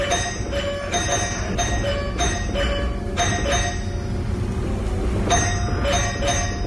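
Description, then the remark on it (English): A doorbell chimes over and over in quick, uneven bursts as a woodpecker pecks at it, each ring bright and metallic, fairly loud against a steady background hum, with no one speaking. “So it took a shine to this person's doorbell. She started just going kept to town on it. Ringing it.”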